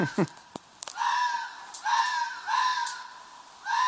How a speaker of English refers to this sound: Special double issue sound effect two. Two foxes f***ing, and f***ing like they hate each other.